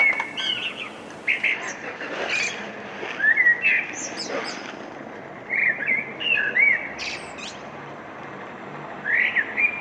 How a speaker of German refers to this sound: Glaubst du mir, der Frühling kommt? Ein Vogelgezwitscher, das ist ja schon Biolärm